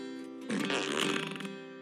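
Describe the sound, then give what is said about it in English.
A truck starts up with a loud, buzzy, fart-like blare that swells after a brief steady hum and holds for about a second and a half, unaccompanied by voices. “There's something kind of special about this truck. It makes a fart noise when you start it up.”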